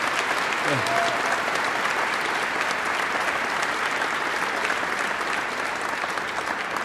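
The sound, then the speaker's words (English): Sustained applause from a large crowd at an MLK Heritage Award ceremony, given for young Callinan singers. A dense, steady wash of clapping holds an even loudness for about seven seconds, with a brief faint tonal whistle or voice early on. “Please join me in giving another round of applause to all of our young Callinan singers today.”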